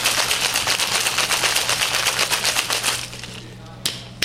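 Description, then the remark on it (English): Ice rattles hard inside a 16-ounce shaker filled to the top with ice and fitted into a 23-ounce shaker, shaken to mix a cocktail, in a fast, steady clatter for about three seconds, then fades to quieter shuffling with a couple of sharp knocks at the end. “We're going to put that in our 23-ounce shaker and just shake it like crazy.”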